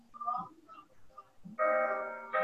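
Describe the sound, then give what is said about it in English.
A phone alarm suddenly starts blaring a steady, bright electronic melody of layered tones, getting a little louder toward the end, after a few soft murmured sounds. “Let me stop this phone.”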